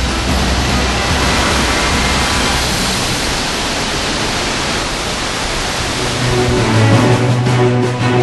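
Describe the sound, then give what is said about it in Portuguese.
A steady, loud roar of rushing water from the Cachoeiras da Prata waterfalls in Chapada das Mesas National Park, Maranhão, fills the whole stretch, dense and unbroken, with a faint low hum joining in near the end. “Estamos diante das Cachoeiras da Prata. Vistas de cima parecem um turbilhão de água.”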